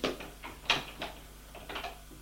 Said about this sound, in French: veut ouvrir la porte, mais elle est fermée. Il va demander au domestique la clé pour ouvrir la porte.